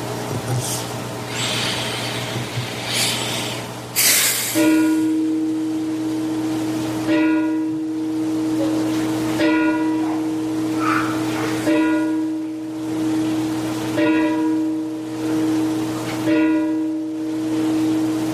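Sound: church bell tolling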